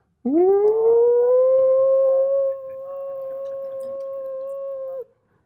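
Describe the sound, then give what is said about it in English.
A voice imitates a car engine with one loud, sustained droning hum. It swoops up in pitch at the start, then holds steady for about five seconds, easing slightly in volume halfway through. “can I make some funny sound? You don't mind? I call in a car engine sound.”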